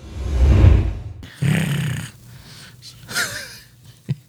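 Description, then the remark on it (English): A person imitates a cat purring with two rough, low, rattling breaths, the first longer and louder, followed by softer breathy noises and a brief sharp sound at the end. “I was purring for you guys.”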